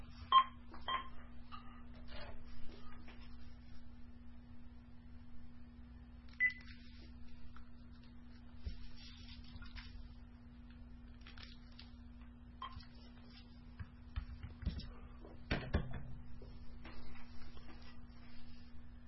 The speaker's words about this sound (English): That was a battery change on the phone.